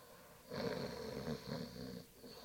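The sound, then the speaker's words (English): A single long, rasping snore from a man lying asleep on a bed rises and fades over about a second and a half, low and rough, with quiet before and after. “He was laying there snoring, his hand hanging over the bed”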